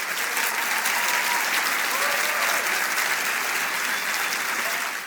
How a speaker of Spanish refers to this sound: The Imagine Award for Masaki Yuasa, por favor, recibamos con un fort aplaudiment i en peu, sisplau, al maestre Masaki Yuasa.